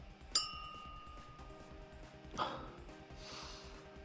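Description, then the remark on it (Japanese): A single bright, crisp clink of glasses touching in a toast with Fuzzy Navel cocktails, followed by a soft shuffling sound and faint ringing tones fading. “ファジーネーブルはお前もな。さ、乾杯。”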